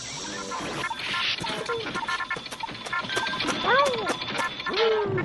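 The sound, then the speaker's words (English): Orange soda splashes and pours over a computer, which sputters into crackling static and rising, falling warbled tones as the circuitry shorts out, loud and continuous throughout. “Just pour it on top of that computer. Do it now.”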